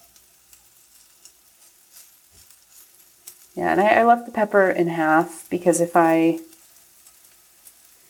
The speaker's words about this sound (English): Alright, so I'm going to add that in with the garlic and the onion and stir it again. Alright. Smelling good.